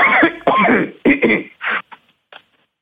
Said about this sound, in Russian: Вы знаете, вот мне кажется, вообще, сейчас покашляю, подожди.